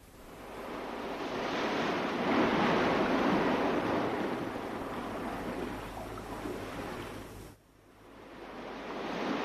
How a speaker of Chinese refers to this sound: 于是老头就走向蔚蓝的大海， 看见大海在轻微地起着波浪